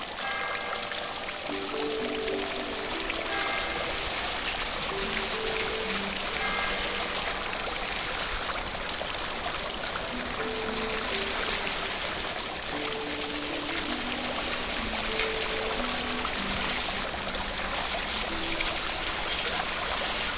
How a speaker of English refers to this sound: Putting aside your cares or inhibitions, you walk naked down the steps under a curtain of falling water.